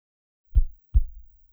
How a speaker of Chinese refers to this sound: 而那修理工也好像在庆幸自己得逞似的，暗叹侥幸，心跳声大得仿佛连门外的吴勇都能听到。